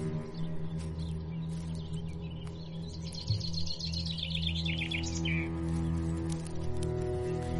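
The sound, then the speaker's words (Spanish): Birds chirping and trilling in a rural countryside setting at the Barranca sanatorium, a rapid warbling song standing out over a steady low hum of engine or outdoor background noise, no voices present. “Podéis escuchar los pájaros, es un ambiente bastante rural.”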